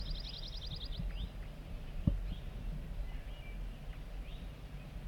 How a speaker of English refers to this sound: We're getting zert zert song from bird 4-3. Very soft.